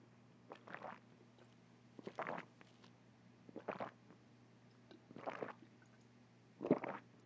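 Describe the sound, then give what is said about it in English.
Five wet sipping and gulping bursts of a person drinking water come at a slow, steady pace over a low constant hum, with no talking in between. “Do you guys want to hear me take a sip of water?”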